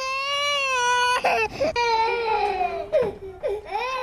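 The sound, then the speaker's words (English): A baby cries at a military base in long, high wails with strong harmonics, broken by a few sharp catches of breath and sobbing gulps, loud and sustained over four seconds with no talking. “Speaking of babies, if this is what you think the military sounds like...”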